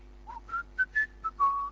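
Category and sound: human body sound, person whistling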